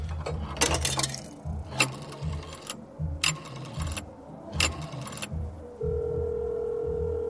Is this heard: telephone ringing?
yes